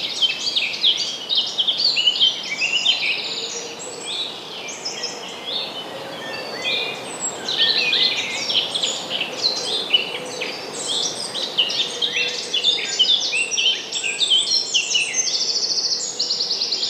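A dense dawn chorus of spring birdsong, many birds chirping and trilling at once in an unbroken, overlapping tangle of high calls, steady throughout.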